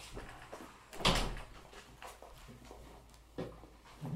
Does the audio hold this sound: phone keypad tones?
no